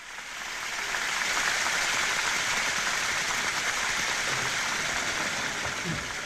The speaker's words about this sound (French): Ce sont deux planchettes articulées que les spectateurs agitent et qui claquent l'une contre l'autre.